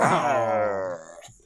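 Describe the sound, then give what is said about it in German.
A person voices a single drawn-out, low groaning growl, imitating a bear. It is fairly loud, holds for about a second, then fades with a short breathy tail. “Selbst da, ich bin der Bär.”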